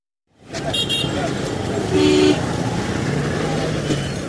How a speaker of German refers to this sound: Der dichte Verkehr auf Gomas Straßen erzeugt riesige Staubwolken.